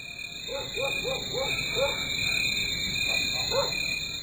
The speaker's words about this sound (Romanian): Ce ciudat mi se pare țăritul greierilor aici, între coșuri de fabrică, sonde, cisterne, ziduri de uzină.